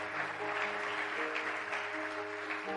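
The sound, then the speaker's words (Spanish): A church audience claps steadily and loudly for a few seconds in praise to the Lord during a sermon, a dense, even wash of applause with sustained musical chords humming underneath and no one speaking. “A su nombre, dele aplauso fuerte al Señor.”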